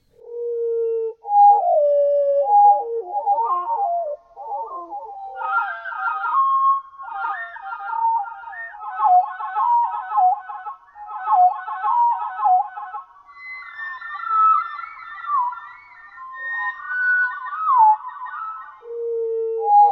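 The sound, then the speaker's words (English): Several hermit thrush songs, pitch-lowered and time-stretched, with portions isolated and reassembled into a little composition, the Hermit Thrush Jingle: a continuous sequence of fluting, wavering tones that slide and trill in stepwise phrases, with no talking, like a short jingle. “I've pitch lowered and time stretched several songs, and then isolated portions and reassembled them to create a little composition, the Hermit Thrush Jingle.”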